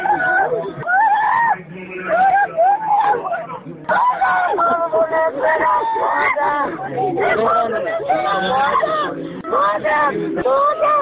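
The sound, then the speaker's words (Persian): A mother whose son has been killed screams and wails loudly and continuously, her cries rising and breaking, while a crowd murmurs and calls out around her. “کسی جلودار فریادهای مادر سهراب نیست.”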